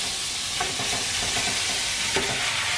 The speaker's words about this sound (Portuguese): Bom, já pus uma panela aqui pra aquecer e eu vou refogar esse frango, gente. Pouco de azeite.